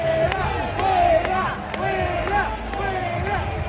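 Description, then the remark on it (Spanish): A large crowd waiting at the Puerta del Sol in Madrid reacts loudly as the politician Bolaños arrives: many overlapping raised voices and shouts, with sharp bursts of noise cutting through a steady, dense roar from start to finish. “Pues que ha sido recibido así por la gente que estaba esperando en la Puerta del Sol.”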